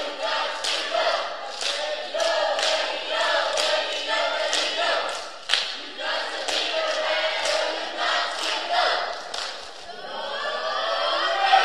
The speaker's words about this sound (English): All right, let's hear a cheer from the red team, winners of the offering tonight. Come on, stand up, red team. Let's hear your cheer.